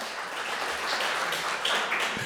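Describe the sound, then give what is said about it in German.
An audience applauds the worship team steadily, a dense wash of many hands clapping at once with no pauses, sustained throughout at a moderate level. “Großartig, ein Applaus mal für das Lobpreisteam, das war richtig gut.”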